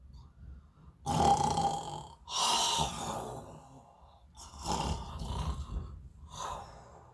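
A voice imitates the deep, rumbling snoring of lions lying down peacefully to sleep: four rough, breathy snores in a slow rhythm, moderately loud, with short quiet pauses between them and no speech.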